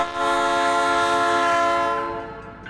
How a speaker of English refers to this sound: It's hard to ignore a blaring train whistle, flashing lights, and bells.